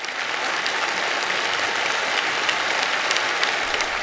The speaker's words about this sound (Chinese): 北京人民大会堂的掌声不断，梁家河村党支部会议室同样回响着热烈的掌声。